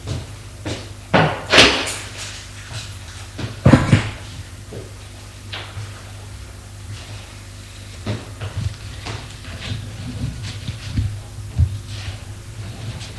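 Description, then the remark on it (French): The door of a small furnished apartment is unlocked with keys and pushed open with a few sharp clunks and knocks near the start, followed by softer shuffling and scattered thuds in quiet surroundings. “Elle ouvre la porte, éclaire et le fait rentrer.”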